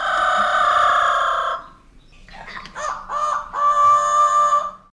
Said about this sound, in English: Father, can you see the parrots and birds? Yes, they can sing very well.